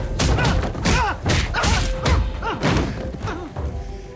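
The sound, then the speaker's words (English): A crash of breaking glass as someone bursts through a window gives way to a rapid flurry of heavy punches and thuds as a thug is pummeled, loud, with strained grunts and pained cries between the blows. “crashes through a window and pummels the thug.”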